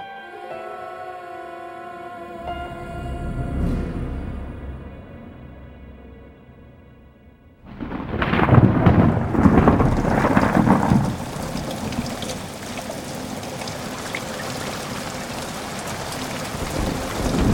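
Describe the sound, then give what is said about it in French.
A low sustained tone hangs alone at first, then a heavy downpour suddenly swells in: a dense, steady, loud hiss of cold rain pattering on the rooftops of Basin City, with no voices. “J'écoute. La pluie tombe sur les toits de Basin City. Une pluie froide, électrique.”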